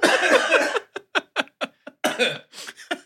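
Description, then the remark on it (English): A loud, raspy cough opens, then breaks into a rapid string of short, sharp coughing bursts, ending with a couple more harsh hacks. No speech. “I'm going to leave that cough in.”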